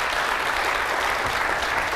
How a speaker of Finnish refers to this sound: No niin, mutta kuitenkin uudet aplodit, kun on näin paljon rahaa jaossa.